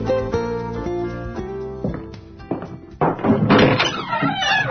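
A few heavy, booming footsteps thud, followed by a door groaning and creaking open, with a sustained tonal drone underneath at the start and no talking.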